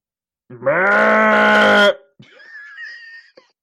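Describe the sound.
A person does a loud, strained bleating imitation of a goat, one sustained nasal cry lasting over a second, followed by a thinner, wavering high-pitched bleat trailing off.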